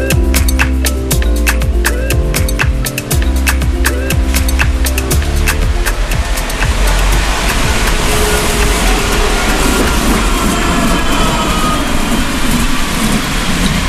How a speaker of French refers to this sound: Bon, c'est le deuxième tramway qui passe, et cette fois-ci, je ne peux pas le louper. C'est la première fois que je prends la ligne C depuis son inauguration au mois de juillet. Direction, le quartier de Belleveille à Angers.